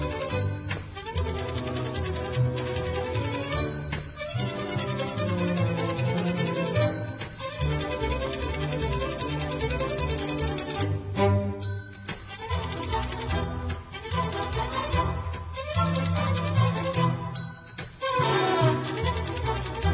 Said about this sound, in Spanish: Entonces ellos tienen que hacer motricidad fina, de escribir a máquina, pero distinguir el timbre de cuando hay que cambiar de renglón con el timbre.